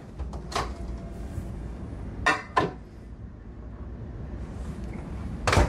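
A microwave door clicks open and thuds shut as hot dogs topped with folded cheese slices go back in to cook, a few sharp clacks spread over several seconds with quiet background noise between them and no talking.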